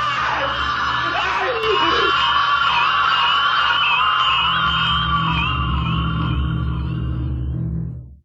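A man's long, terrified scream, loud and sustained with a strained, wavering pitch, as he backs against a wall and dies of acute fear, holding steady for several seconds before cutting away and fading out at the end.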